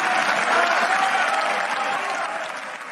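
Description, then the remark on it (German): Sustained applause from a large audience after a statement by Scholz, a dense continuous clatter of clapping that stays loud throughout and eases slightly toward the end, with faint crowd murmur mixed in. “Ja, ich kann mich auch nicht daran erinnern, dass man jemals schon mal quasi Standing Ovations oder auch irgendwelche Jubelrufe aus dem Publikum gehört hat, wenn Scholz wirklich mal ein Statement gemacht hat. Das kam hier aber durchaus vor.”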